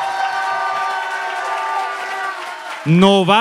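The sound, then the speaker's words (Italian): A crowd applauds and cheers on cue after a countdown, in a steady, dense roar for nearly three seconds, with shouting voices mixed in; then a loud voice speaks over the fading noise at the end. “Pazzesco, l'applauso più fragoroso.”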